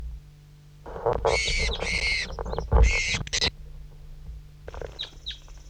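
A handled bird gives a burst of loud, harsh squawks and chirps for a few seconds, then a couple of fainter high chirps from another bird follow after a pause, with handling rustles and low background noise.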